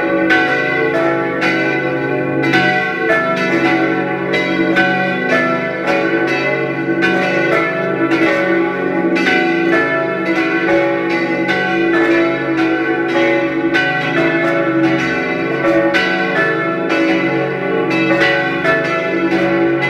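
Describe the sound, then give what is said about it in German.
The bells of the parish church of St. Theresia in Linz peal continuously at 12 noon, overlapping strikes ringing out in an uneven rhythm with a rich, sustained hum beneath; loud, with no voices. “Sie hören die Glocken der Pfarrkirche St. Theresia in Linz.”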